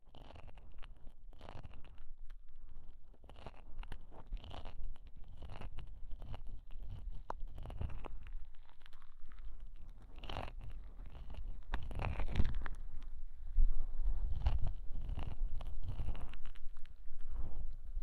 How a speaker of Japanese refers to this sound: そろそろ反対の耳もきれいにしようか。 はい、こっち向いて。 よいしょっと。それじゃこっちの耳もいっぱい泡だらけにしてあげるね。